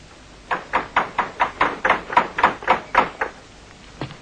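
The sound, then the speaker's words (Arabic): A rapid series of about twelve firm knocks on a wooden door, evenly spaced, followed by a pause and one final knock. Fairly loud, with no voices. “قبل أن تفتح الباب سلمان الطارق”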